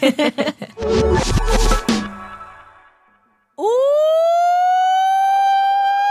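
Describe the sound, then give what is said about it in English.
A few sharp thuds and a loud clattering burst fade away, then a siren winds up from a low pitch into a steady, loud, sustained wail that holds to the end. “Ring the alarm!”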